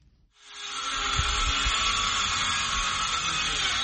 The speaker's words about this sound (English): The roar of power drills fills the air in the village of Gidmakta, a typically quiet community of 2,000 people located some 100 kilometers from the Senegalese capital of Dakar.